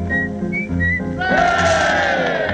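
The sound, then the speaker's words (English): A person whistles an imitation of a bullfinch call, one of several imitations of well-known British birds: three short, high notes, then a louder, longer whistle that bends upward and slowly falls, over a steady low hum. “Ladies and gentlemen, a few imitations of well-known British birds.”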